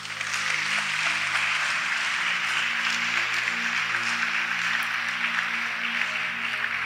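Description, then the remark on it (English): An audience claps for Jesus together in a dense, steady roar of hand claps that holds at an even loudness for several seconds, with low sustained tones humming underneath. “Clap for Jesus.”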